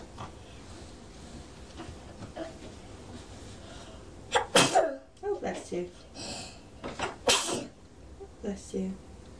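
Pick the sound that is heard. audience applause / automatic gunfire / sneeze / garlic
sneeze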